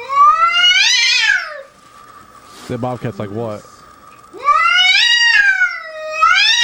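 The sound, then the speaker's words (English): An indoor cat yowls loudly in long, wavering, drawn-out cries, three in a row, at a bobcat sitting on the porch looking into the house, with a short burst of a person speaking between the first and second. “Sitting on a porch, looking into somebody's house, and the indoor cat's flipping the fuck out. That's what you're hearing.”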